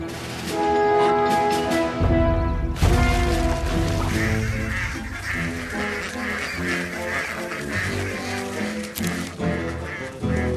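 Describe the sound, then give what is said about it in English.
A flock of ducks quacks loudly and almost nonstop, many overlapping nasal calls forming a busy chorus for about ten seconds, with a brief low rumble early on. “And I think I've figured out what ducks love more than ponds.”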